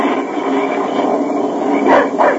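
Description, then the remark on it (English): A dog named Dan barks twice near the end after smelling game, two short sharp yaps cutting through a steady roar of wind or rumbling noise that fills the background throughout, as a storm comes on. “Keep that dog quiet. He smelled game.”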